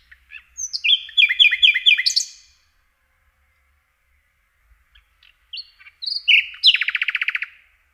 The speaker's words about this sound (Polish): Słowik rdzawy zaliczany jest do najlepszych ptasich śpiewaków. Jego piosenka składa się z serii szybkich, dźwięcznych kląskań, zwykle poprzedzonych kilkoma melodyjnymi, fletowymi gwizdami.